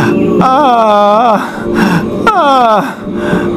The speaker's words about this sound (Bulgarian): Това детско прореваване. Странно.